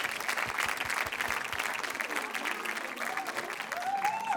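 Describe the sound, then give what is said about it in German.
A crowd applauds steadily as a guest is called up onto the stage, a dense wash of clapping that holds at an even loudness throughout, with a faint rising tone and murmurs surfacing near the end. “Applaus nochmal.”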